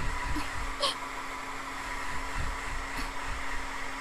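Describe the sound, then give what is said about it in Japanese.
A hair dryer blows cool air steadily over someone's hair to set it, a constant airy roar with a faint motor hum underneath, broken only by a couple of soft, brief clicks. “偉そうに言ってる私も、ドライヤーの説明書を読むまで知らなかったんですけどね。”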